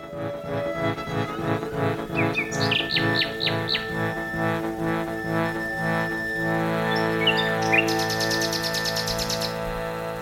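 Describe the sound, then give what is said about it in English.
Birdsong chirps and trills in short bursts over a steady, rhythmic instrumental music bed, with a quick buzzy run of high notes near the end. “I don't know why, but hopefully we can track it back and it was the bird sounds.”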